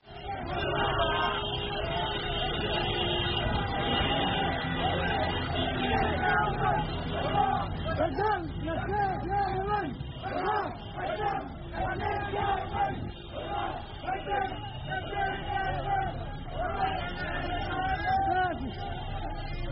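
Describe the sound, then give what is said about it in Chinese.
A crowd of Yemeni government soldiers cheers and shouts together after retaking Hazm, the main city of Al-Jawf province, Yemen: a dense, continuous roar of many voices with rising yells and excited calls that stays loud for the whole stretch. “在现场视频里，也门政府官兵欢呼雀跃，是气氛火热。”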